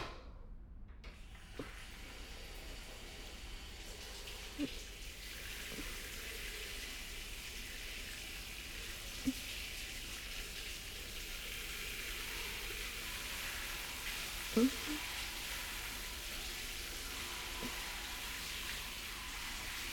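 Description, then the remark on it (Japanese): A shower in a one-person shower room sprays water in a steady, unbroken hiss for the whole stretch, with a few soft knocks and splashes breaking through now and then. No one speaks. “シャワーかけるわね。”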